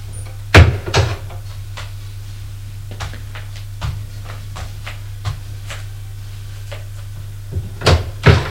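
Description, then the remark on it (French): A bedroom door in an apartment is opened, with a cluster of clunks and latch clicks at the start and end, scattered softer taps between, over a steady low electrical hum. “Ouvre la porte de sa chambre.”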